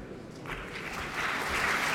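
The audience at Wigmore Hall applauds violinist Renaud Capucin and pianist Frank Bralet as they open their recital with Beethoven's Spring Sonata, a dense wash of many hands clapping that swells a little louder toward the end, with no one speaking over it.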